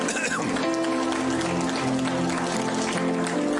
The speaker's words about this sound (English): Let's give a warm clap to the Lord.